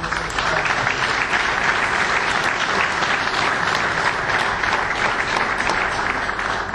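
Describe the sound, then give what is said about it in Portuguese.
Sustained audience applause at a ceremony marking São Martinho do Campo becoming a vila (town), a dense steady clatter of many hands clapping at an even, loud level throughout, with no one speaking over it. “portanto, para si e para todos os que acompanharam neste desígnio de levar São Martinho do Campo à Vila, eu peço um enorme salve de palmas, que é por si.”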